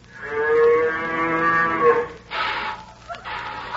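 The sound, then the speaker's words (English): A single long, loud moo from Bessie, a cow being milked, lasting about two seconds, followed by bursts of hissing, splashing noise like liquid spraying. No one speaks. “My lad, you're supposed to milk a cow at the back end.”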